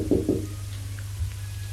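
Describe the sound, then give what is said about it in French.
Two quick knocks by a mother on her son's door, dull and fairly loud, followed by quiet with a steady low hum underneath. “Elle a frappé à sa porte.”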